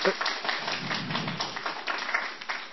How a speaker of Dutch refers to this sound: Het applaus is richting het pop-up theatergezelschap.